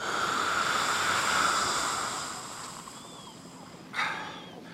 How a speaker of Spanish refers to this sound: Mejorando su respiración. Está respirando.